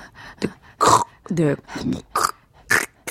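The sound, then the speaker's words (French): A pack of dogs yelps and whines in quick, irregular bursts, some barks harsh and grunting, others higher and strained and excited, heard as the wind dies down, at a snowmobile. “Ah, le vent se calme, on réentend les chiens, à la motoneige, après tes pas.”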